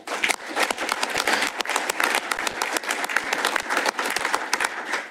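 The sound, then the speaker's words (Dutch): A crowd applauds in thanks for someone's service to the municipality, with dense, overlapping hand claps forming a bright, even wash of sound that holds at a consistent loud level throughout, with no voices heard. “Een applaus.”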